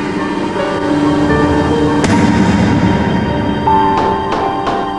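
Several dull bangs on window glass, struck pitifully by someone looking out the window, one alone and then three in quick irregular succession, partly buried beneath a dense, sustained musical score. No one speaks.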